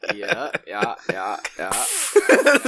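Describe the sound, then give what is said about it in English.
Voices talk for a moment, then a steady, bright hissing crackle takes over for about a second as a woman takes a very long drag on a cigarette, with some murmuring underneath. “Just the crackle.”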